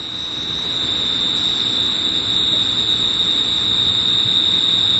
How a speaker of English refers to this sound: Our cricket is back.